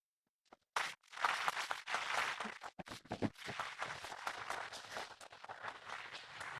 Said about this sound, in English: This was excellent. May I have a big applause for this fight?